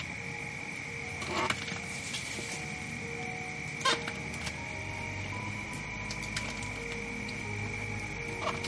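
A big elephant with huge tusks, 15 to 20 meters from a campfire, chewing bark and wood, crushing it between its molars: irregular crunching and cracking bursts, a few louder snaps among softer grinding, over a steady high-pitched insect drone and a low background hum.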